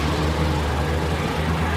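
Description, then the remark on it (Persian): A car engine hums steadily with a low, continuous rumble as a car approaches in heavy rain, holding an even loudness throughout with no voices present. “از دور میبینه که ماشین نجفی میاد.”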